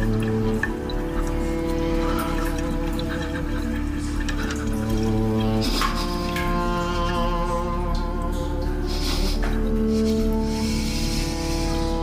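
Water splashes and drips at a sink in a steady stretch, with a couple of louder splashy bursts. Sustained tonal sound runs underneath, and no one speaks.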